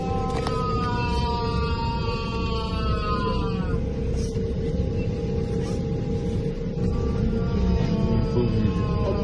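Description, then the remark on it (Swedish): A man howls in agony from the toilet at the back of a passenger plane, drawn-out wailing cries rising and falling in pitch over the loud, steady rumble of the airplane cabin, filmed by a passenger. “Och sen är det då faktiskt en passagerare som filmar på flygplanet för att plötsligt så hör de då från toaletten fruktansvärda vrål.”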